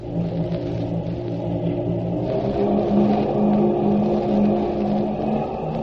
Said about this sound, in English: The torpedo boat almost leaped out from under us as the engines opened up. Then we twisted around in a complete circle faster than I can tell you about it.